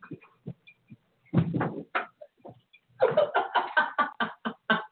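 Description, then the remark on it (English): A dog snores and snuffles: scattered soft breathy snorts, a longer rasping stretch, then a quick rhythmic run of short snuffling pulses. No one speaks. “Your snoring dog's pissing me off. Oh, I can hear it.”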